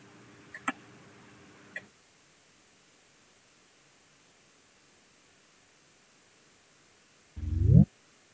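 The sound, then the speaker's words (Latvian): A voting bell rings in a parliament chamber before a vote on proposal 117, for under two seconds with a couple of sharp clicks, then a long hush of faint room tone, ending in a brief loud rising sound. “Jā, deputāti vēlas balsot, lūdzu zvanu, balsosim par 117.”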